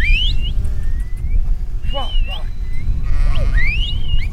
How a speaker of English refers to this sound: a flock of sheep were being brought into pens on the slope of the mountain by several shepherds and their dogs